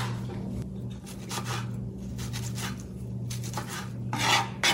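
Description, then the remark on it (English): A woman chops tomatoes into small pieces with a knife on a cutting board for a summer dish, in a run of rasping cutting strokes at an uneven pace, over a steady low background hum. No one speaks. “Right now she's chopping the tomatoes.”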